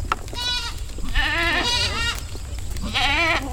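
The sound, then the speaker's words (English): Several goats from a rented herd grazing on weeds and brush bleat in overlapping, wavering calls, three or four loud bursts, over a low rumbling outdoor background. “And what I do is I rent out herds of goats to eat weeds and brush and restore the land to its native glory.”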